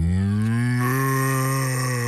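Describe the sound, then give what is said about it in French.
A person in Belgium imitates a cow with one long, loud, steady moo that holds clear for about two seconds, a convincing low bellow with no talking. “Moi je fais la vache.”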